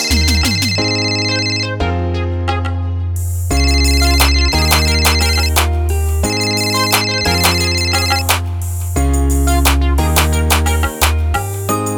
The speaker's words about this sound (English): Can't believe say me phone rang.